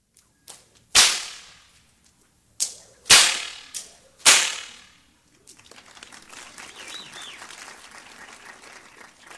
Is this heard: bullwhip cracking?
yes